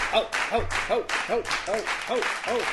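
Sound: clapping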